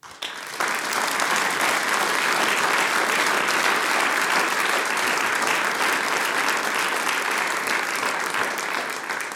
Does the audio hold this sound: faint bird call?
no